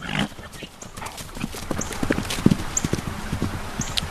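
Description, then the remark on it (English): Hooves of twelve horses at an equine rescue and adoption facility on Martin Highway in Palm City clip-clop in an uneven, steady rhythm on hard ground outdoors in nice spring weather, with a few brief high chirps in the background and no talking. “Twelve horses at the Equine Rescue and Adoption Foundation, or ERAF, in Palm City are doing just that.”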